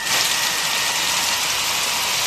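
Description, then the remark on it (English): A steady, unbroken electrical buzz with a hissing, crackling edge, loud and even throughout, from overhead high-tension (high-voltage) power lines. No one speaks. “Those are high-tension wires, otherwise known as high voltage.”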